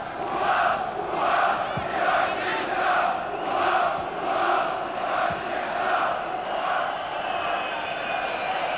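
A huge stadium crowd of nearly 40,000 at a match between Germany and Denmark roars continuously, swelling and easing in rhythmic waves as if chanting together, loud and dense throughout with no pauses.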